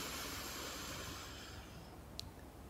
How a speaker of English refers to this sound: And again, you might put a hand on your tummy. Just breathing all the way in, filling up the lungs. All the way out. Then one more time, breathing all the way in.